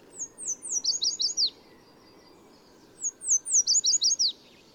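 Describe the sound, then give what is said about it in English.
A yellow warbler sings two bright, rapid phrases of high, sweet slurred notes, each about a second and a half long, separated by a short pause. The song is clear against faint background hiss. “In spring and summer, yellow warblers sing from treetops in city parks and stream sides from Mexico to Canada.”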